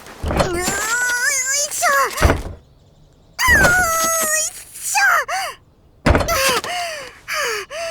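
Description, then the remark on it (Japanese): Several heavy, dull thuds, like a weighty door-like slab lying on top of rubble being shoved and dropped, come in bursts between pauses, while a voice strains and groans with effort trying to lift it. “と、見つけたのはいいけど、なんか上に乗っかってる扉みたいなのが邪魔ね。”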